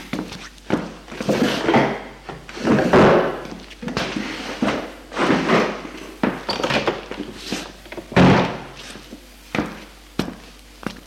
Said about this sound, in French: Dans l'appartement, il ouvre les tiroirs, les meubles, sans même regarder.